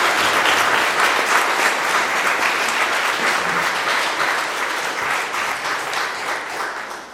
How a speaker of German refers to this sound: Vielleicht erstmal einen Applaus für diejenigen, die sich so intensiv hier eingesetzt haben.